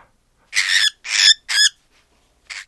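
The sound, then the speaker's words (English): A voice imitates an angry cockatiel with three loud, harsh screeches in quick succession, then a shorter, softer squawk after a brief pause, clear with no talking. “And actually, it was an angry cockatiel.”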